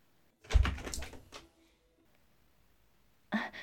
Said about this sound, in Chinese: 好，我们快去开门迎接吧。